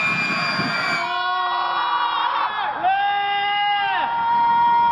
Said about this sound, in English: Some primal screams from Columbia and Northwestern that have little to do with the man who coined that phrase, Arthur Janoff.